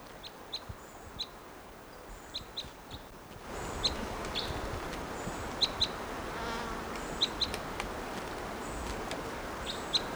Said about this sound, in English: Sounds like type 5 to my ear, although very type 2 like. And that bird just flew a ways.